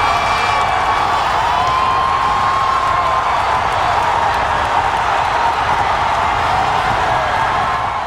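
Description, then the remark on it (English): A massive racetrack crowd at Belmont Park in 2015 roars and cheers as the horse American Pharaoh hits the top of the stretch in its Triple Crown bid, a dense, loud wall of voices holding steady for the full eight seconds, with scattered whoops and shouts rising out of the din. “But in 2015, I was in the stands at Belmont Park when American Pharaoh hit the top of the stretch. Here's what it sounded like.”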